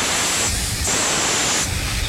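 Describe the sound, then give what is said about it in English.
Several people hiss together to imitate a snake, a steady, breathy sss held for about two seconds with slight swells in intensity and no talking. “And the snake goes. Can you make a snake? I can't hear anybody hissing out there.”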